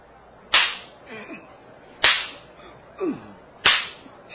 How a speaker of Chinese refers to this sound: 我虽然查不出他的过失，仍要下令鞭打他。士兵们，剥下他衣服，绑在柱子上，开始用鞭子狠狠地打。